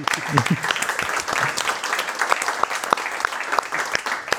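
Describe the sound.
An audience claps steadily for several seconds, applauding a guest and the hosts, a dense wash of many hands with a few sharper individual claps standing out, and a brief voice murmurs at the start.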